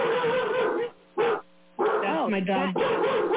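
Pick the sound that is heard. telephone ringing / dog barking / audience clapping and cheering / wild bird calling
dog barking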